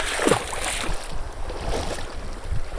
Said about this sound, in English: Logging Creek runs fast through tall forest in Glacier National Park.